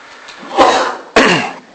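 A loud sneeze: a breathy rising burst followed a moment later by a sharp, explosive second burst, with no talking around it.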